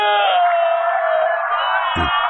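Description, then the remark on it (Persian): A loud, sustained wash of many voices wailing and crying together, played over a powerful sound system at a ministry, a dense emotional crowd lament with overlapping tones, plus a brief low thump near the end. “صدای گریه جمعیت از کجا میاد”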